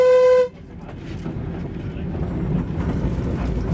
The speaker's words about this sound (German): Ein Triebwagen rumpelt über zugewachsene Gleise nach Klötze an der ebenfalls von der DRE gepachteten Strecke Salzwedel-Übisfelde.